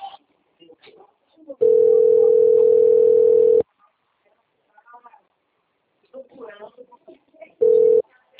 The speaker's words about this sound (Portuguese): Já tá até tocando o telefone.